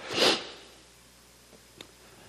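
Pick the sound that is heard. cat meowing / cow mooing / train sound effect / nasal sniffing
nasal sniffing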